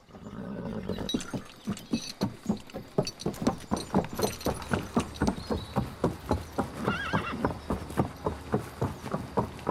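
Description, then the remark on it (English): A horse ridden by Gisborne walks slowly out of the town gates with a steady, even clip-clop of hooves on a hard surface, and partway through it gives a brief neigh. No one speaks. “The gates swing open, and Gisborne rides slowly out of the town.”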